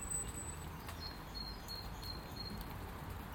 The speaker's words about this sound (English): And the birds would sing all night. Just as you're hearing them just now.